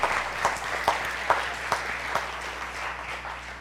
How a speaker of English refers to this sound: Give them a round of applause while they're coming, because maybe they don't know.